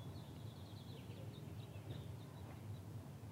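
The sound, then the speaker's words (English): Faint birdsong: a string of high, quick chirps and short trills drifting over a steady low rumble, with no voices present. “The birds are giving you messages now.”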